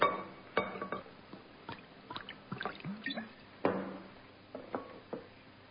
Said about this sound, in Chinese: 一个小桌，两只大碗，两个人对面坐着，老肖拿了一个二锅头的瓶子，把酒倒进两个大碗。